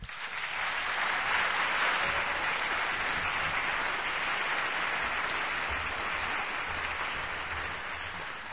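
A crowd applauds an introduced speaker steadily, a dense wash of clapping that holds at an even, fairly loud level for several seconds before easing slightly at the end, with no talking.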